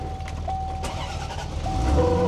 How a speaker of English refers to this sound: Oh, it sounds awesome. The C4 had a much easier time this morning cranking up. Very quiet car. It is. I don't think we're going to hear it among the competition.